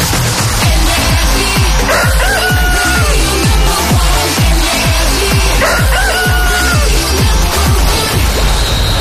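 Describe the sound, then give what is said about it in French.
A rooster crows twice, a few seconds apart, over loud upbeat music driven by a steady thumping beat, in the morning show on Énergie radio. “Qu'on amène le coq!”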